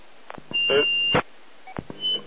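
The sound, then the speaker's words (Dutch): A high, steady electronic beep holds for over half a second, then a shorter one sounds at the end, mixed with scattered clicks and knocks like handling a device as the beeping is switched off. “Even de pieperij uitzetten.”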